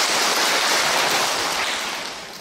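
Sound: round of applause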